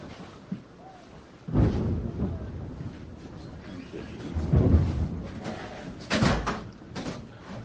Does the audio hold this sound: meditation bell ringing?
no